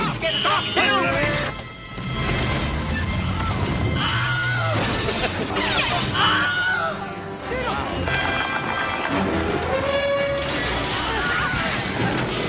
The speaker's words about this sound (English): This is from the movie Them. You're listening to the evolution of the Wilhelm Scream.